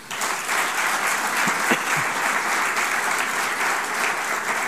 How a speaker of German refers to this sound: Also nochmal extra Applaus für Sie. Danke.